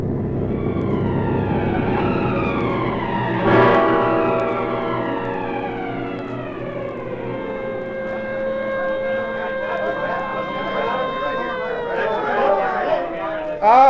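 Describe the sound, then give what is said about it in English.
A loud ambulance siren wails, its pitch sweeping up and down in long glides over a low engine rumble as the ambulance arrives at a car accident on a highway. “The ambulance is just arriving.”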